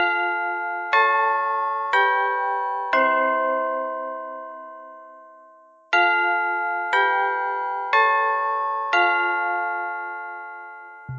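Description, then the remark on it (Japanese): A school bell chime plays alone at the end of a class, eight ringing tones in two phrases of four, each note struck cleanly and left to decay slowly before the next. “鐘が鳴ってしまいましたね。では、今回の授業を終わりにします。”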